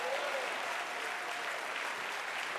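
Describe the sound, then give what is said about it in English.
An audience at Hope Church claps hands in praise to the Lord for about ten seconds, a steady, dense wash of applause at an even level throughout, with faint voices mixed in beneath it. “Come on, take 10 seconds and give the Lord a hand clap of praise like you believe that.”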